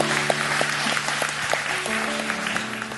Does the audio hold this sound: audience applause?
yes